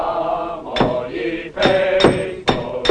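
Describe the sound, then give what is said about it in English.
About five sharp metallic hammer blows ring out at an uneven pace as a man shapes a spade with a hammer and other men hammer at bits of metal tube, each strike leaving a brief bright clang over a steady background hum. “Sedgwick starts shaping a spade with a hammer as other men hammer at bits of metal tube in front of them”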